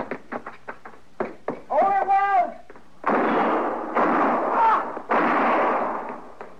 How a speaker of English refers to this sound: You were close, but he missed me. Well, you two didn't miss him. I don't know which one of you fired first, but either both would have done it.